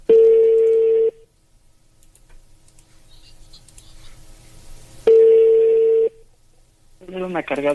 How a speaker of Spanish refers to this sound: Chale, no contesta. Buzón de voz.